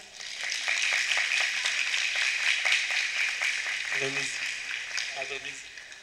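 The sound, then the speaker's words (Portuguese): An audience applauds steadily for several seconds during a certificate presentation to a professor, a dense, even patter of many hands at moderate loudness, with a voice briefly speaking over it near the end. “Palmas.”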